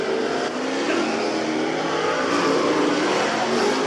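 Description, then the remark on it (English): Loud, continuous roar of race car engines revving as the drivers do several hot laps around a dirt track to check the gears and warm up the cars, dirt flying; a steady dense drone with rising and falling pitch as the cars accelerate, no voices. “The drivers do several hot laps around the track to check the gears and get the cars warmed up.”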